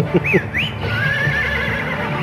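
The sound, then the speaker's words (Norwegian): A horse whinnies loudly in the BraveStarr cartoon theme, first two quick rising-and-falling calls, then a longer wavering neigh that trails on, all set against a busy, dense musical background. “Så hesten hans er akkurat som Battle Cat. Når det er en vanlig hest, så kan det bli til en sånn battle-hest liksom.”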